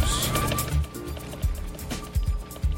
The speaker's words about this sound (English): I'm over here taking a drink of water. I'm like drinking vodka out of my mug.